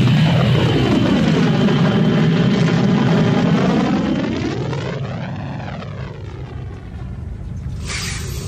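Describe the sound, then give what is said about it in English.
Spaceship engines roar loudly as the ship lifts off and flees an enemy hangar deck. A dense rumbling drone whose layered tonal whine sweeps down, swells back up, then shifts again, with no voices over it. “I could do some property damage before liftoff.”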